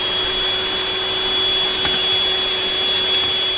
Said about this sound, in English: Oh no, here comes a vacuum of space!